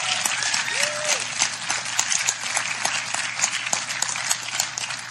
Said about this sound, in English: Everybody give the Lord a hand clap. I want you to give a big hand clap to your worship team,